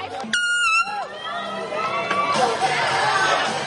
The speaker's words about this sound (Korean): 그리고 이렇게 대회 날 야외에서 신나게 달리면서 사람들의 응원과 환호를 들으며 경기를 즐길 수 있어서 정말 즐겁습니다.